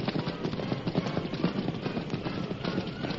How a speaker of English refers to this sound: Then masked man and white horse passed the stage and swept ahead. Come on, Silver! Masked rider's voice rang out in the teeming rain. The horse sped on, unmindful of the slippery mud and water-filled holes beneath the flying hoofs.